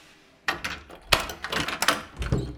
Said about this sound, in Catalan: Obre la porta i la claror il·lumina la cara de la Mariana.